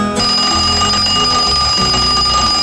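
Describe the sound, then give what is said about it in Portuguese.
An alarm clock rings loudly and continuously for a few seconds, a bright, metallic, steady jangle that starts abruptly and never lets up, with a low rumbling underneath, played on the Festa na Roça radio program on Vale Verde FM. “Enquanto o galo canta, o despertador desperta, você é sintonizado com o Festa na Roça.”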